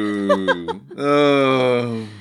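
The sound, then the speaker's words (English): A tinny, electronic cow moo from a novelty Christmas greeting card as its button is pressed: a few short choppy bleats, then one long, drawn-out moo, fairly loud, with no one talking. “Maybe if you open the card and stop pressing the button, Mum, you could find out for sure. Moo. Moo.”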